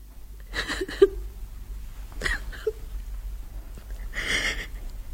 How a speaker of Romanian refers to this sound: Și la capătul puterilor, umilită, îndurerată, pe Clara a înnecat-o plânsul.